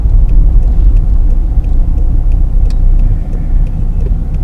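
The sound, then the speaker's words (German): A second- or first-generation Opel Zafira family car of about 110 hp drives along, heard from inside, with a loud, steady low rumble of engine and road noise, continuous throughout with faint higher ticks and clicks scattered over it. “Ja, ich fahre einen Opel Zafira zweiter Generation, glaube ich, ist das, oder erste.”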